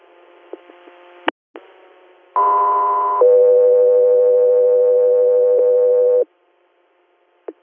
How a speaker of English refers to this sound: Echo 3 Air, stand by for tone.